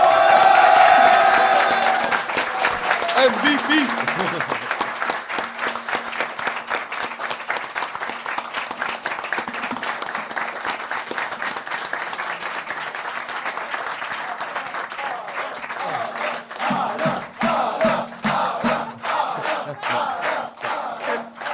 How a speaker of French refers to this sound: Et donc je pense qu'on peut aussi lui faire un tonnerre d'applaudissements pour ça.